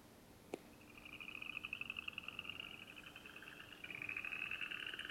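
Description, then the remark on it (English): A southeastern chorus frog gives rapid rising trills, like a fingernail run along a comb, repeating steadily, with a sharp click near the start and no voices. “That really sounds like running your finger over a comb. So that's the southeastern chorus frog.”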